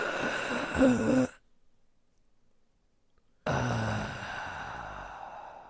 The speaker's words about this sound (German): Noch zweimal. Ich sollte nicht durch den Mund atmen. Ich kipp gleich um, ich kriege Spaß. Du solltest immer durch die Nase einatmen. Dann hört man es aber nicht.